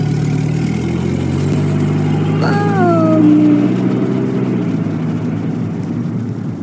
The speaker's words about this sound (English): You're dreaming about being a woman driving a car. You're a woman driving a Chevrolet down Pasadena.